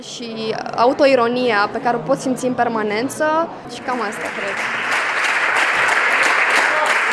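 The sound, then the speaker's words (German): A voice speaks or sings for a few seconds, then the Timișoara (Temeswar) theatre audience breaks into loud, dense standing applause for a play that swells and continues steadily to the end; the ensemble was clapped back onto the stage four times. “Das ehrliche, gefühlsbetonte Schauspiel belohnte das Temeswarer Publikum mit Stehapplaus.”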